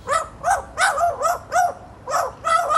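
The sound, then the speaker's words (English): A magpie mimics the bark of a Staffordshire Bull Terrier it has spent a lot of time with, producing about seven quick, sharp yaps in an uneven rhythm. The barks are fairly loud, with no talking. “The barking Maggie and her mate now have 60,000 followers online, finding their friendship a happy distraction.”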